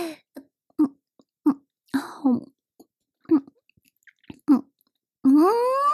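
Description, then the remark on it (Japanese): Wet, squelchy chewing of very spicy, hot skewered grilled chicken (yakitori), about eight short mouth bursts in an uneven rhythm, finishing with a loud, drawn-out voiced sound that rises in pitch. “さて、激辛焼き鳥早速いただくとしますか。”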